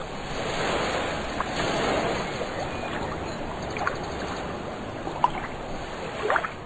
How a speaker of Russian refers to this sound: Морские волны, ударяясь о прибрежные камни, образовывали белую пену.